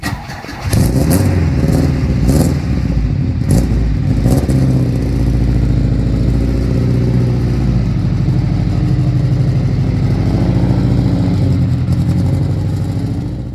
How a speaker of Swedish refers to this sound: Ja, det var ingen MC, men det var en V4 från Ford som satt i alla Saab V4 en gång i tiden.